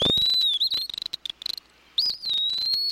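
A wood pewee sings slurred, high whistled notes that rise and fall, over a steady, buzzing insect trill with a few clicky pulses; no one speaks.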